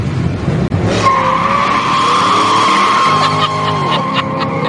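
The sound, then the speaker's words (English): Car tires screech in a long, loud skid as the brakes lock, a sustained high squeal over the rumble of the engine, lasting several seconds with no voices. “Try your brakes. They're good.”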